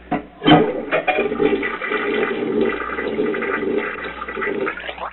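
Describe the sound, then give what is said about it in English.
A toilet flushes, a sharp whoosh of rushing water that churns and gurgles steadily for several seconds, loud and continuous with no talking over it. “See, when you flush it, that water comes down in there and it comes right down and hits that hole and that shows it up there.”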